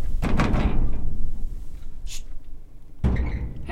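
A wildlife biologist unlatches and swings open a livestock trailer door to release sheep at a Wildlife Management Area, the door facing a rocky hill 30 yards away: loud metallic clanks and rattles, a brief quieter scrape, then another heavy clunk over a steady low rumble.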